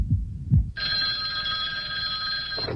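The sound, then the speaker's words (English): A telephone rings on an outgoing call to a random listener for a quiz question: one long, steady electronic ring tone lasting about two seconds, preceded by two soft low thumps, with no talking. “let's make that random call with today's $10,000 question”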